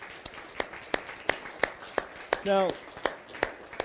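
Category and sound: crowd, audience clapping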